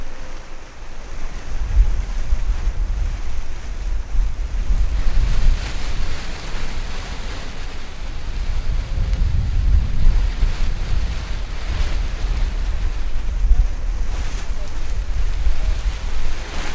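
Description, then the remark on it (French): Strong, steady east wind blows throughout, gusting and buffeting the microphone with deep rumbles, while surf washes beneath a constant airy hiss. “Je sais même pas, c'est un vent de quoi ça? Un vent d'est, nord-est? Vent d'est là!”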